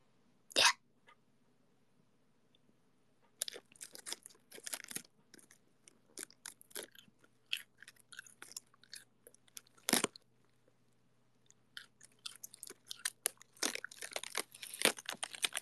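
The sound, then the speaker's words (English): Crisp crunching of someone chewing cold lettuce from a head of lettuce taken from the fridge: a sharp first bite, then a steady run of wet, snappy chews and crackles with brief pauses, no talking. “I'm eating lettuce.”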